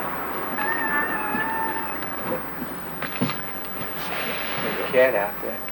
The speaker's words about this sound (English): There's a cat out there.